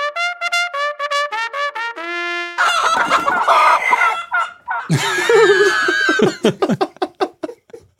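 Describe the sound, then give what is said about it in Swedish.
A short, loud jingle built from rapid chicken-like clucking notes, then a burst of squawking and crowing fowl sounds that ends in quick choppy clucks, with no talking. “Jag har till och med gjort en jingel faktiskt.”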